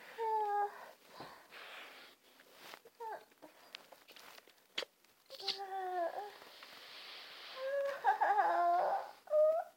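A dog whimpers and whines in a series of high, wavering cries, some short and some drawn out, with soft clicks and shuffling between them.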